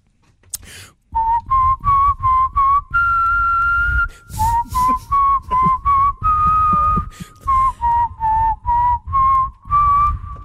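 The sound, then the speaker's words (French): A person whistles a bouncy, catchy advertising jingle for a blind test, with short rhythmic notes and a few held tones, performed solo with no talking. “Je vous siffle des publicités, vous me donnez le nom de la pub.”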